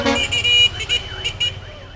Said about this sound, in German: Für viele Kenianer ist es die einzige Art der Fortbewegung. 70% aller Pendler fahren in den bunten Bussen zur Arbeit und hören nach dem Aussteigen, wie sich ihr Matatu fröhlich mit seiner typischen Hupe verabschiedet.